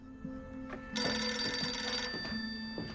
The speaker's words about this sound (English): At the Stauffer home, the rotary-style phone rings.